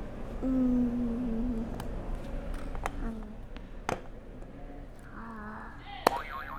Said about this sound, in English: You can hit another buzzer.